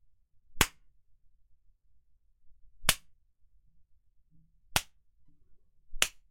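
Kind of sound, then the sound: impact, whip lashes striking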